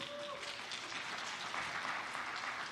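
An audience claps steadily, a dense wash of overlapping hand claps at an even loudness that holds throughout without a break.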